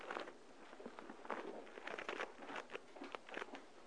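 Many thin Bible pages rustling and flipping at once as people turn to Deuteronomy, a steady stream of crisp, papery bursts overlapping for several seconds, moderately loud, with no one speaking.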